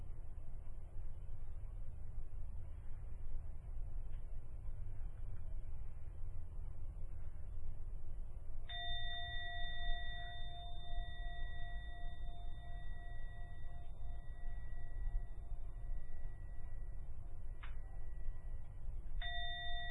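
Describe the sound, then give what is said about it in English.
A meditation gong rings with a long, steady, sustained tone, struck once and then twice more in quick succession near the end, three strikes in all to close a meditation, over a low constant background hum. No one speaks. “Going to ring the gong 3 times.”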